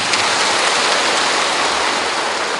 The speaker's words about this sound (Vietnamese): Các vị cho một tràng pháo tay.